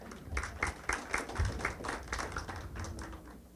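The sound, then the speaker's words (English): An audience claps in a steady, moderate round of applause, a dense patter of overlapping hand claps that holds at a fairly even level for a few seconds without voices. “Give Solomon a round of applause.”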